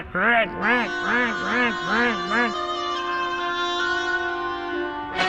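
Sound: duck quacking angrily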